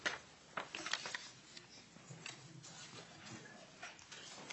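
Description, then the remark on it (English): Papers being shuffled and handled at a legislative committee hearing, a string of irregular crisp rustles and crinkly ticks, louder in the first second and then settling into steady, softer rustling with no voices. “Excuse me, I've got papers here.”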